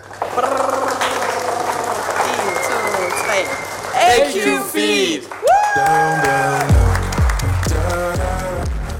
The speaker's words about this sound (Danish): Ej, det lyder super fedt. Mega fedt. Altså, der er jo klapsalver, højt musik og virkelig god stemning.